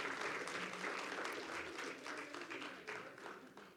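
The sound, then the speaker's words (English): A crowd gives scattered, half-hearted hand clapping, a dense patter of claps at moderate loudness that thins slightly toward the end, with faint voices mixed in. “that was a pretty lame hand clapping.”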